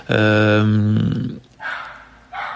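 A neighbour's dog barks loudly: one long, drawn-out, tonal bark, then two shorter, rougher, breathier yaps after a brief pause.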